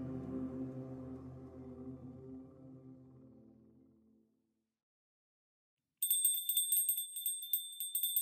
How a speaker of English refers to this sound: What is that? A disused bell, which hung in the room for some now forgotten purpose, was beginning to sway so softly that it scarcely made a sound. However, soon it grew more violent and rang loudly,